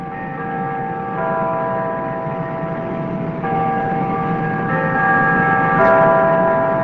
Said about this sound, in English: You're listening to the sounds of Christmas from almost half a century ago. It's Rural Retreat, Virginia. The church bells are from Grace Lutheran Church. Usually they just play a recording of bells, but not this night.